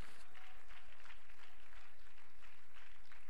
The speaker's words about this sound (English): Hallelujah. Why don't you clap your hands to the Lord and let's thank Him.